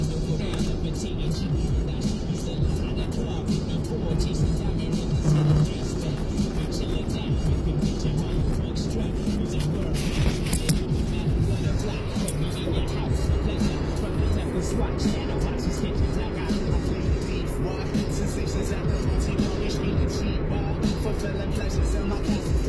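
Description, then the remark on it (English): A car drives steadily along the road on a trip to the P.O. box after its alternator and battery were replaced, its engine and tire noise forming a continuous low rumble, with no clear pauses or changes in pace. “Get this thing out on the road a little bit, make sure it still is okay.”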